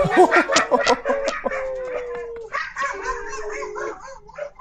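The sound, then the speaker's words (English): Several dogs howl together on cue after a person prompts them, long wavering tones overlapping with sharper yips and barks at the start, the chorus rising and sustaining for a few seconds before trailing off. “Did they just howl their way out of the room?”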